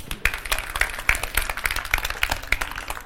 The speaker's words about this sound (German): Applaus.